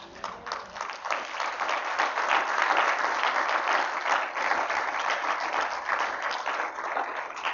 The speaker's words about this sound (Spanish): Yo sé que esta es una clase, pero espero un amén y de cuando en cuando un aplauso para mi buen Jesús.